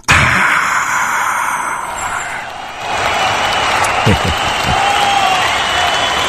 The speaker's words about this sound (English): And the crowd goes wild.